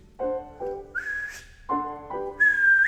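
A whistled tune plays twice: a few steady mid-pitched notes, then a quick shrill rise to a high held note. It is clear, with no talking.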